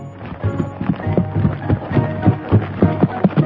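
Horse hooves clip-clop in a steady, rhythmic run of hoofbeats coming from several miles away, over a low sustained humming backdrop with no talking.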